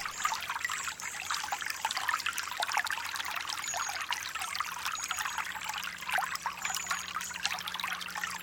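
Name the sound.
trickling water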